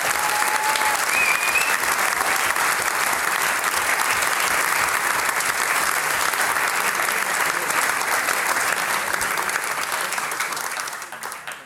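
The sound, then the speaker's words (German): Sustained audience applause for Thomas Bracher, a dense steady wash of many hands clapping at an even level for about eleven seconds before it begins to thin out at the very end. No one speaks over it. “Alles Gute, noch einmal ein Applaus für Thomas Bracher.”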